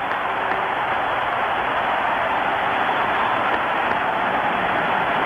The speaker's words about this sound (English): The crowd is up. As you would expect, a standing ovation. His teammates are there to greet him. A 3-run blast by Henry Aaron has tied the great Babe Ruth.